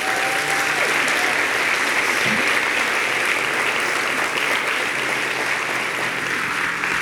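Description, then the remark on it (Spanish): An audience applauds steadily, a dense, even wash of clapping that stays loud and full for the whole stretch with no voices breaking through. “Vamos a darle un aplauso a Dios por eso.”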